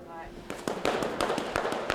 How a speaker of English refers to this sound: you hear those brooms slapping in front of the stone. Sometimes I have heard through my earphones the sort of crinkle.